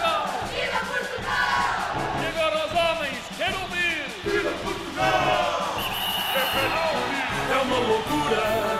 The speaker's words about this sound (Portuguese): Vamos embora, meu povo, eu quero ouvir as meninas a gritar, viva!